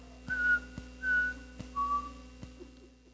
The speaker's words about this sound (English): And then he'd sing, he'd whistle a little song, you know? See, I'm not as good as my father was. But I'd try. And I'd keep trying. And I'd watch his, and he'd change notes and he'd make it warble and do all kinds of wild things, you know?